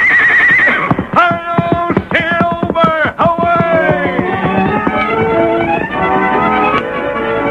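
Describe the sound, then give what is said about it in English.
Silver, the Lone Ranger's big white stallion, gives a loud, quavering whinny that rises and falls, while sharp hooves clop rhythmically throughout, with no one speaking. “The big horse seemed to know what was expected, and his nostrils quivered in eagerness to be off and away, carrying the masked man to new adventure.”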